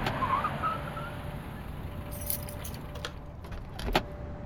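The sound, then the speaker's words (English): A car arrives outside a hospital ER: its engine rumbles low and steady while bright metallic jingles, like keys, ring out in short bursts, with a sharper clink near the end. No one speaks. “When he stepped out of the car, I could tell he was shaken.”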